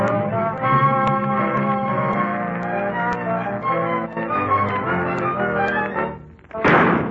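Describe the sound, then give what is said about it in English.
In the radio drama Yours Truly, Johnny Dollar, sustained orchestral music plays for several seconds, dips briefly, then a single loud, sharp gunshot bang bursts out as bullets crash through a door, ringing for a moment at the end. “When those bullets came crashing through the door at me, I dropped to the floor.”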